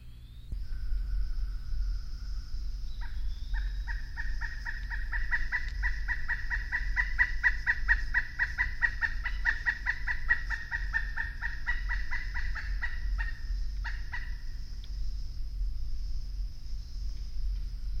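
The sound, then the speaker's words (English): A pileated woodpecker gives a long, rapid run of clucking calls, evenly paced and fairly loud, lasting around ten seconds over a low steady background rumble, with no talking. “Sometimes they make a clucking sound when they are flying or when several of them are gathered together.”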